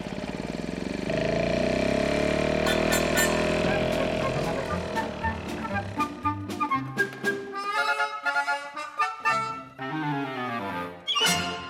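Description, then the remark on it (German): A lawn mower engine drones steadily for several seconds as the lawn in a garden is mowed, its pitch wavering slightly, then breaks into choppy, uneven sputtering bursts that stop and start irregularly. “In der Zwischenzeit, damit einem nicht langweilig wird, draußen im Garten Rasen mähen”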